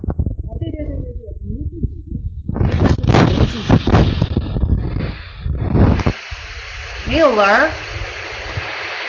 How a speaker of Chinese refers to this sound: 有杂音是因为我这个风扇开得很大。